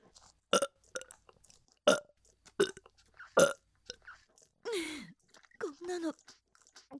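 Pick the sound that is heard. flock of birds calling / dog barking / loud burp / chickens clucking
loud burp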